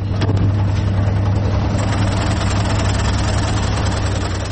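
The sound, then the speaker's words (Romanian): A dough kneading machine runs steadily in a bakery in the Gagauz autonomous region, a loud, constant motor drone with a deep low hum and a rough mechanical rumble layered over it, unchanging throughout, with no voices. “Lângă mașinăria care frământa aluatul, stau de vorbă cu cea mai experimentată brutăreasă.”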